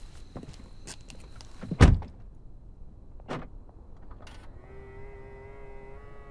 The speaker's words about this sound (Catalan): Els retrovisors externs es pleguen automàticament.